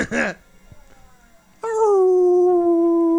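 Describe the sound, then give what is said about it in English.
Dogs howl in a film playing on a VCR: a brief sharp yelp, a short quiet gap, then a loud, sustained howl that holds a steady pitch and slowly sinks, sounding clear. “Their voices are being drowned out by the dog sounds and the VCR humming.”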